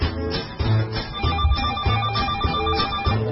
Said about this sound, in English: and I'm gonna play a little ditty that we have for opening the phone lines